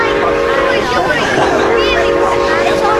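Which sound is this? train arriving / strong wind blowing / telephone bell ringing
train arriving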